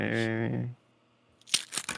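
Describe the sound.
A voice sounds briefly, then after a short pause the plastic wrapper of a Panda Express fortune cookie crinkles and tears open in a few sharp, crackling bursts.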